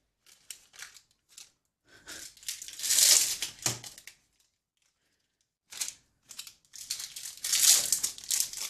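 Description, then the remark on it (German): Crinkling Kinder Pingui snack packaging being handled and opened: scattered crackles build into two loud bursts of rustling plastic with a quiet gap between them, and no voices. “Vielleicht holst du sie schon mal alle aus der Packung, damit es nicht knistert, wenn du sie gleich währenddessen isst.”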